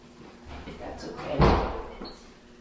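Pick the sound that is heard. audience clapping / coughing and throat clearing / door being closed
door being closed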